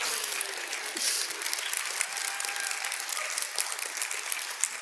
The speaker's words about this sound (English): We might even move on from the half awkward clap we sometimes do to a full clap when we're excited. There it is.